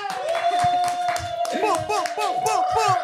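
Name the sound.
applause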